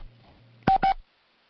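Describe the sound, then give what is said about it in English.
Two short, loud telephone keypad tones beep in quick succession as phone buttons are pressed during a conference call, over faint background hum, then silence. “But what I would like you to do is for all of you to please hit the number 6 button on your phone so we can mute all the background noises.”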